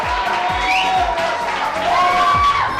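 A crowd cheers and applauds loudly and steadily, with whoops and shouts rising over dense clapping that carries on for a few seconds without letting up.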